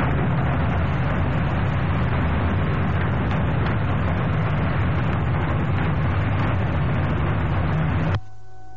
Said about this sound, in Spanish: Exactamente, que no se graban voces, sino que se graban sonidos de aviones, e incluso de las bombas cuando caen. Exacto, como si estuviera allí la guerra atrapada en el tiempo, ¿no?